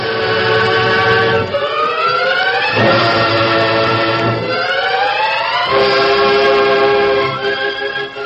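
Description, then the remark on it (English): A brass whistle blows one long, loud, continuous blast, its reedy, harmonic-rich tone repeatedly dipping and sliding back up in pitch over about eight seconds, with no voices. “but he's blowing a whistle.”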